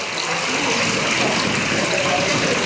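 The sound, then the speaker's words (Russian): Water runs from a spring at Ein Karem in a steady, continuous gush, a fairly loud rushing and splashing that holds even without pause throughout. “По преданию, святая Дева Мария брала здесь воду, когда 3 месяца жила у своей двоюродной сестры, праведной Елизаветы.”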